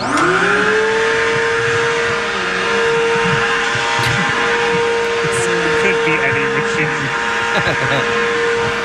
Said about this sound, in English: Is this a leaf blower? No, it actually is the opposite. It's a vacuum cleaner.